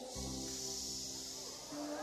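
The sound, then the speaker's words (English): A voice makes a long, steady shushing hiss lasting about two seconds, with low sustained musical tones humming underneath, in a sermon about Jesus stilling the storms of life. “When there's a prize in your life, he can go shh.”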